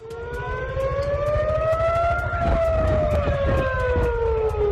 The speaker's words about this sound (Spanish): En Israel, hace pocos minutos, en la ciudad de Tel Aviv, las sirenas de advertencia han sonado por toda la ciudad.